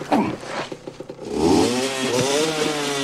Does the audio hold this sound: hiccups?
no